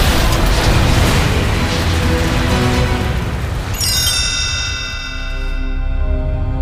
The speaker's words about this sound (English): But as they were driving, a huge explosion hit Tony's truck.